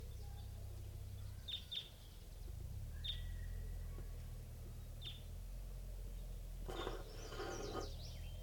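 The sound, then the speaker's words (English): A hair bird gives a handful of short, high, sharp call notes spaced irregularly as it comes in, then a brief burst of busier chirping, all over a steady low background rumble. Recorded at 7:13 a.m. “Recording a hair bird coming in.”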